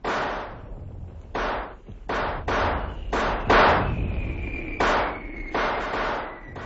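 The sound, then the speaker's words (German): Fireworks going off at a house: a rapid, irregular series of loud crackling bangs, around nine bursts, with a thin high whistle trailing through the second half. “Da brennt ja ganz Feuerwerk ab”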